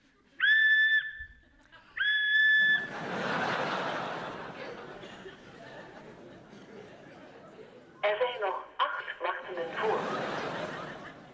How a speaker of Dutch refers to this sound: Dit is het antwoordapparaat van garagebedrijf Poortman. U kunt een boodschap inspreken naar de fluittoon. U heeft dan tijd tot de tweede fluittoon.